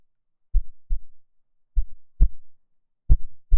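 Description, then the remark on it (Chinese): Low, muffled heartbeat thumps, each beat a soft double pulse, repeating at a slow, steady rhythm with nothing else audible. “这是今晚的心跳，它比那个时候更稳、更温柔，因为我知道我的弟弟。”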